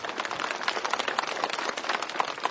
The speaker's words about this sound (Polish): Podziękujmy oklaskami naszej scholi.